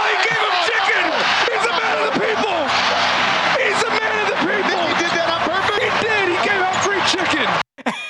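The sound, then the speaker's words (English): A large NBA basketball arena crowd roars and shouts continuously during a player's free throws, a loud, dense wall of overlapping voices and cheers that cuts off abruptly near the end. “Yeah, so that's why the fans are getting a little frothy.”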